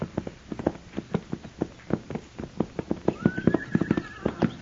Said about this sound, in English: Mr. Dillon, what do you figure them horses are doing down there? It ain't right they should wander around like that without it. Mr. Dillon, they got their saddles on, too. The horses were down the street, and as they heard us, their heads jerked up